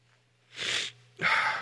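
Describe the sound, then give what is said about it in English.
Two sharp, breathy sniffs through a stuffy nose, fairly loud, the second longer than the first, with a brief pause between them and no talking. “Not to mention the fact I have the sniffles.”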